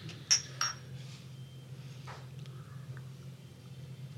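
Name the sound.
glasses clinking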